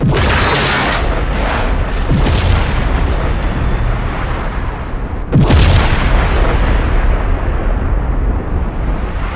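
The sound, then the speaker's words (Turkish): A loud, rumbling explosion roars continuously, with a sharp second blast around the middle followed by a long thundering decay; no voices. “Bu kanıt Big Bang, yani büyük patlama teorisinden geldi.”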